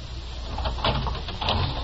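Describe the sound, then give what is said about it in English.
A door opens with a couple of soft rattling clunks over a steady low rumble, with no voices. “We'll be there when he opens the door.”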